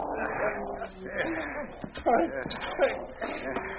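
A dog named King growls and snarls in rough, continuous bursts while attacking a man, mixed with scuffling and the man's strained grunts as he struggles.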